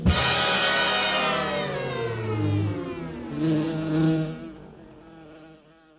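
insect, bees buzzing

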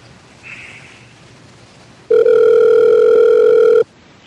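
signal or alarm, telephone dial tone

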